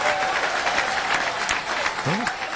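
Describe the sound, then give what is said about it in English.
Sustained audience applause in response to a budget speech line about eliminating state funding for Planned Parenthood, a dense steady wash of many hands clapping at an even volume, with a faint voice briefly surfacing near the end. “I'll say that got some applause.”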